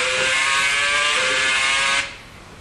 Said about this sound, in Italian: Adesso invece lo guardo dal prato e vedo le macchine passare.